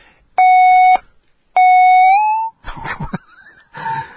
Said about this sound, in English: Okay. I guess that's what happens when you have the phone line up with nobody on it.